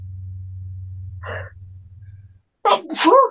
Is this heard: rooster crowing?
no